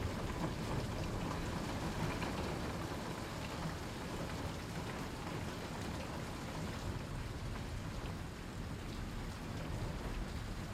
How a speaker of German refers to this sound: Es ist früher Morgen an der regnerischen Küste Englands. Du bist noch in deinem warmen Bett, innerhalb deines gemütlichen Hotelzimmers, als dich das leise Prasseln von Regentropfen gegen die Fenster weckt.